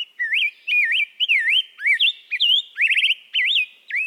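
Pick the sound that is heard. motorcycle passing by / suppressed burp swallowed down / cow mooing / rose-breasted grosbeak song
rose-breasted grosbeak song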